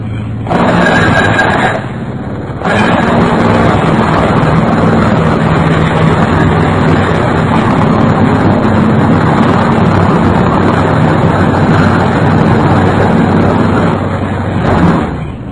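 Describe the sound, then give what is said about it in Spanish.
A pneumatic jackhammer drills loudly and steadily, a harsh mechanical roar that breaks off briefly near the start, then runs on continuously with no voices. “105 decibeles. Un perforador neumático.”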